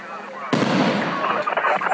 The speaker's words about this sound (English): And they had the pipe bombs and one was huge, and it lit up my whole house. The house shook. I'm surprised that window was still intact.